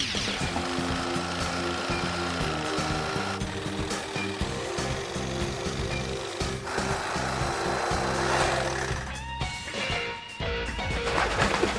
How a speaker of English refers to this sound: I need birch plywood with many layers that you can get at any hobby shop. Now, this is about 6 millimeters or 1/4 inch thick. And now I trace the design onto the wood. Now it's time to cut with the jigsaw.